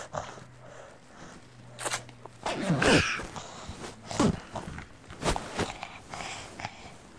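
A jacket zipper rasps in several short, scratchy bursts, the loudest near the middle, with soft rustling between pulls and no voices.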